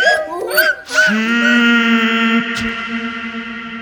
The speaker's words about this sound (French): Soudain, des hurlements, des cris stridents, des jacassements, des sauts et des bâillonnements. C'est une famille de singes qui saute d'arbre en arbre.